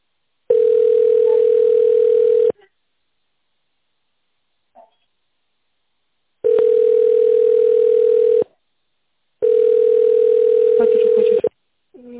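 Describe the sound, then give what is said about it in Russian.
A telephone line tone heard while holding on the line after a company's automated greeting sounds in three long, steady mid-pitched beeps, each about two seconds, separated by uneven silent gaps, with faint small noises in between. “Пожалуйста, наберите внутренний номер сотрудника или оставайтесь на линии.”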